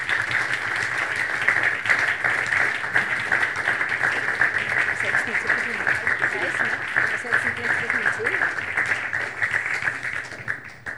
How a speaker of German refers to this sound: Einen Applaus bitte auch für die drei Herren.